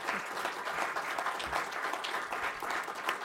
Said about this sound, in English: And with that, could we have a round of applause for our candidates, please?